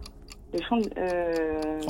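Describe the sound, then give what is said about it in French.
A clock ticks steadily in sharp, evenly spaced clicks, continuing under a voice that comes in partway through and holds a drawn-out, tonal sound. “Ne touchez pas à mon horloge.”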